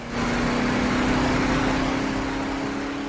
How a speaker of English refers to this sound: A car speeding along a highway in the darkness.